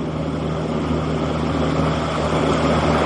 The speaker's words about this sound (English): Yeah, and... what's that? It sounded like a car in the background.